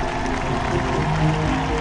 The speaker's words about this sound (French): En attendant, la foule vient d'offrir une ovation à Steven Da Costa qui restera à jamais le premier champion olympique de l'histoire en karaté.